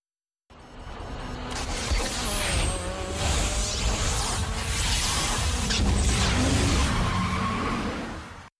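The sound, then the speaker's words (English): A racing car roars and accelerates hard on a nitrous oxide (NOS) boost, engine pitch sweeping upward with tire squeal and a rushing whoosh, loud, sustained for several seconds without any talking. “Racers push the NOS button on the controls, and their cars suddenly go much faster.”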